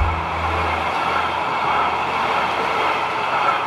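A train rolls past on rail tracks, a steady, loud rumbling roar with a low hum at the start, continuing unbroken for a few seconds with no voices.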